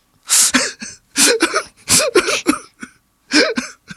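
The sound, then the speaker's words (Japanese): A voice imitates a child crying, with choppy bursts of exaggerated sobbing and gasping breaths broken by short pauses. “まあ、でもちょっとそんな経験してんだったら、 いい、 俺泣いてる子やるから、 いい、 ちょっとケアしよう。”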